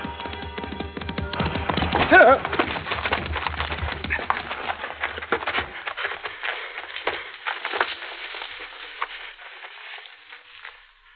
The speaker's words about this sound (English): And then a man on horseback appears riding this way, and behind him two other men firing their rifles at him.